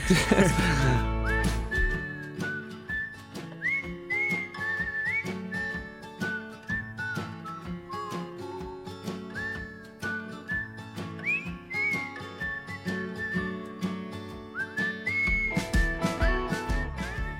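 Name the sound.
whistling a melody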